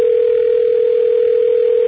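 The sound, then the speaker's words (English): A phone ringing on a call to a hotline, heard as one steady, loud electronic tone of a single mid pitch that holds for about two seconds and then cuts off, with no voices. “The actual sound of a phone ringing.”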